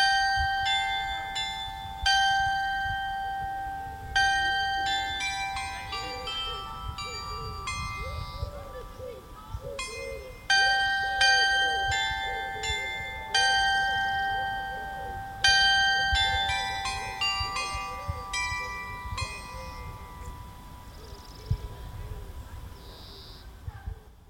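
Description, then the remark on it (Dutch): A small bell in an open-air chapel at Dadizele, at the end of a pilgrimage, rings out in repeated bright, high-pitched strikes, each tone ringing and fading before the next, in uneven clusters over a low murmur of voices. “Of het kleine klokje hier in de openluchtkapel nodigde ons uit om naar binnen te gaan.”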